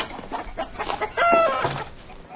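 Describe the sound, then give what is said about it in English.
A chicken clucks and squawks agitatedly as someone tries to grab it by the foot, in a short burst of overlapping calls, with a louder, sustained squawk partway through. “Just grab him by the foot. Come on, chicken.”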